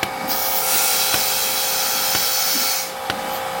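A milking machine pulsator, set above the right vacuum level, runs steadily under a loud vacuum hiss and hum, with a sharp rhythmic click about once a second. No one speaks.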